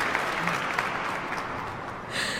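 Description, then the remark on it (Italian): Steady audience applause fills the whole stretch, a dense wash of many hands clapping at moderate loudness, brightening slightly near the end, applauding a woman's sung performance on a radio programme. “Te lo sei meritato tutto questo applauso.”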